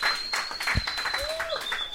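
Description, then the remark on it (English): An audience applauds, a dense, steady patter of many hands clapping at even loudness throughout, with a faint whistle-like tone running above. “You can clap for that.”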